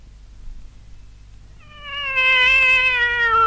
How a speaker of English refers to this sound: Hello, Hillary. Waiting in the hall for me. Well, stop meowing. There's a good cat. I'll get you some milk.